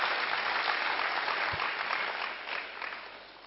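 A crowd claps loudly and steadily to welcome a speaker, a dense wash of applause that holds for a few seconds, then begins to taper off slightly toward the end.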